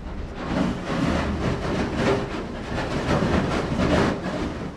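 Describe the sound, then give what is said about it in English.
An icebreaker ship smashes through great sheets of deep blue sea ice: a steady, heavy rumbling roar with rough crackling and scraping textures that surge slightly every second or so. No voices. “There's something breathtaking in the cracking ice and grinding metal.”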